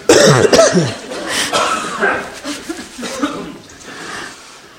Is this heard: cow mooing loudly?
no